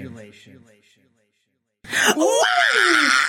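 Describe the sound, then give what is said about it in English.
After a short spoken stretch and a pause, loud anguished wailing voices of the two witnesses at the wall in Jerusalem burst in, with a high, sliding, sustained cry rising and falling over a dense, harsh wall of sound. “All of Jerusalem, all of them heard those motherfuckers wailing.”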